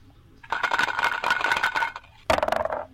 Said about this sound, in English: Select. Roll dice. So I'm going to roll the dice.